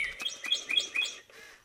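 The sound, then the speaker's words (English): A small pet bird, alert and puffed up in its cardboard box on a kitchen counter where a mechanical toy bird has been placed, chirps in a quick run of bright, rising tweets, fairly loud, then trails off into a softer, breathy rustle with no voices. “Much of the time, the bird calmly roosts in a cardboard box on their kitchen counter, but right now she's all alert and puffed up.”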